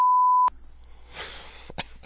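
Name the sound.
censor beep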